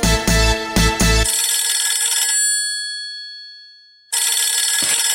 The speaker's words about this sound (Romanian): O, sună telefonul